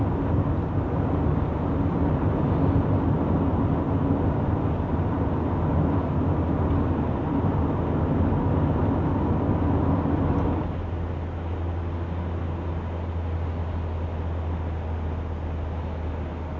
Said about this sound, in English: Suddenly a lot of traffic, that's the first three of them.